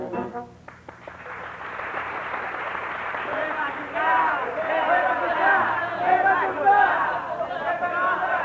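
A Parisian audience at the Sherazade cabaret in 1921 shouts and chatters insistently together, calling for a Brazilian group to come on stage, in a dense, continuous hubbub growing louder and more insistent partway through, with scattered claps mixed into the noise.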